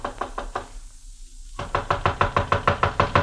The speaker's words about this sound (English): I walked up the narrow awning-covered gangplank that led to the little deck and knocked at the door.